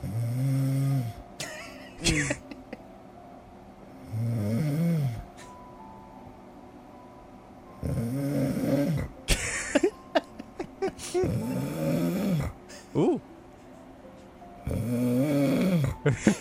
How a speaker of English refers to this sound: Contestant for the snore off number three.